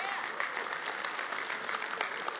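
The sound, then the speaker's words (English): An audience applauds the praise team and the sound booth with a dense, steady wash of many hand claps, sustained and fairly loud throughout, with no single voice standing out. “Let's give our praise team and our sound booth a big hand clap.”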